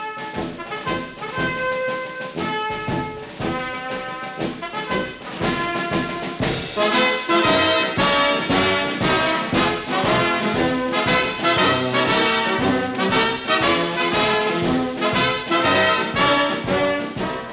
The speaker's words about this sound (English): Now everyone in the band takes a rest while the bugles play.